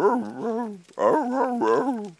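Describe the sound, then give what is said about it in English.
A dog lets out two long, wavering vocalizations, half whine and half howl, with pitch sliding up and down. Loud, with a brief pause between the bouts and no talking. “which, by the way, is dog for. I have no clue what I'm doing.”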